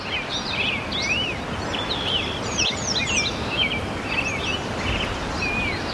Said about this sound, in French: Là, on entend les oiseaux et derrière la rivière, c'est la rivière qui coule.